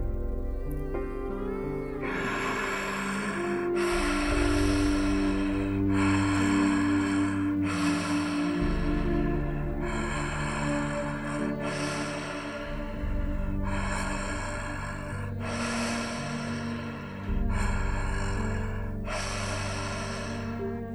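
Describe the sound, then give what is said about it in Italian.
Deep, steady circular breathing: breaths flow in and out continuously without pause, about every two seconds, fairly loud over a soft, sustained musical drone. No one speaks. “Quando senti che i polmoni sono pieni, lascia andare e quando sono vuoti, lascia entrare. È un moto circolare più che un dentro e un fuori.”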